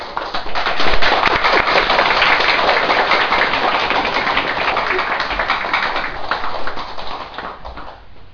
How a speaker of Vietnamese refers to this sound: Xin quý vị vỗ cho một tràng pháo tay.